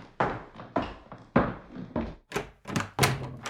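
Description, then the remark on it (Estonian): A door being opened at home to let arriving guests in, heard as a quick series of hollow thunks and clunks, roughly eight in a few seconds, with no talking. “Ma lähen teen ukse lahti.”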